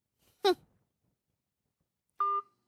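A brief breathy vocal sound, like a sigh, then after a pause a single short electronic mobile phone ringtone for an incoming call rings out clearly and steadily before cutting off.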